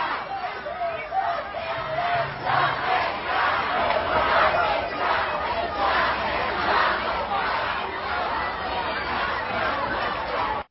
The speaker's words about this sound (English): This is a giant crowd gathered right outside the New York Times building chanting.